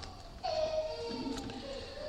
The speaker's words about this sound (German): Also wir sind eine kinderfreundliche Konferenz. Niemand muss hier gleich hüpfen und springen, wenn mal ein Baby ein Laut von sich gibt. Wenn es zu arg wird, dann ist klar, dann kann man auch mal gehen, ne?